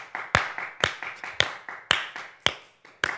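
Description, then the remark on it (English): A short burst of applause given as a moment of appreciation: steady, rhythmic hand claps from what sounds like just one or a few people, fairly loud, with no talking. “Moment of appreciation. A round of applause.”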